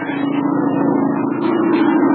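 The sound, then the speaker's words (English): A low-flying propeller airplane drones steadily just above the trees, its engine giving a strong, buzzing low hum that swells slightly louder toward the end, with no voices. “It's a plane, all right. Must be gonna land here. Not mighty low. Just above the trees.”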